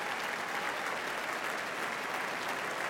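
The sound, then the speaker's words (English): A large concert audience applauds the conductor and members of the Boston Symphony Orchestra, a dense, sustained wash of clapping that holds an even loudness throughout with no voices standing out. “Most appreciative audience here, applauding our conductor and the members of the Boston Symphony Orchestra.”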